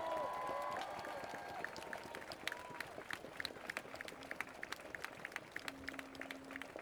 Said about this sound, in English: I also wanted to do one time, for all these people up on the stage, for all these people who have donated equipment, time, food, water, vehicles, can we get a warm round of applause for everybody who organized this?